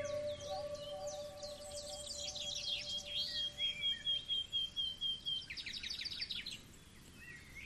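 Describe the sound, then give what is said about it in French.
Birds sing in bright, repeated chirping phrases and trills, clear, over a low steady background hum with no one speaking, in shaded woodland undergrowth among trees. “Des oiseaux chantent sur votre passage.”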